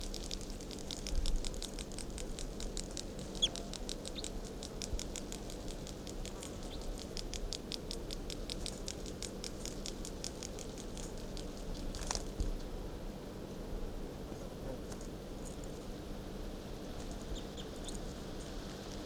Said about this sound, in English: Sarcorn, this is bird 356 again.